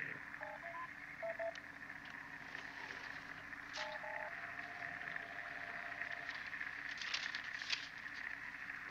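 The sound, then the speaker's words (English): Steady, crackling radio static interference from an aircraft's data transmitter hisses throughout, broken by a few short electronic beeps near the start and a held tone in the middle, with sharper bursts of crackle toward the end. “Computer can't read much of this data. There's too much interference.”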